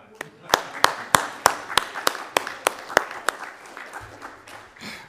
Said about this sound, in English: I think it would be appropriate, especially after the bells, to show them how much we appreciate it with a round of applause.